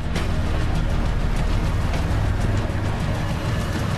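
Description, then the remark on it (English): A car engine rumbles steadily as the car pulls into a rear yard near a river, a dense low hum with a gritty wash of road or gravel noise over it, continuous and fairly loud throughout, with no voices. “The car pulls into some kind of rear yard near the river.”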